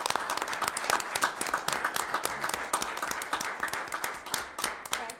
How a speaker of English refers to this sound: Please join me in a round of applause and warm thank you to these remarkable swift water rescue lifeguards.